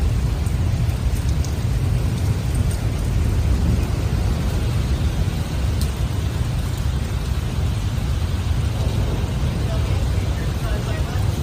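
A thunderstorm with intense lightning rages steadily, with a dense wash of heavy rain and a deep, continuous low rumble of thunder filling the background at an even, loud level throughout.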